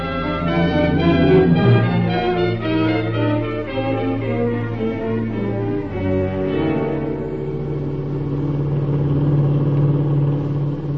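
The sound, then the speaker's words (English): The engine of a black 1941 Plymouth sedan with a Pennsylvania license hums and revs steadily as the car drives along in Ohio, its droning tone shifting pitch partway through, loud with no voices. “Well, give me a description of the car and the girls first, and I'll get out an alarm right away.”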